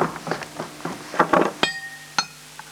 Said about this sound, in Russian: Референтка вносит чашки с дымящимся кофе.